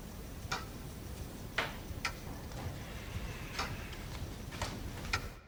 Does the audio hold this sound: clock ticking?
yes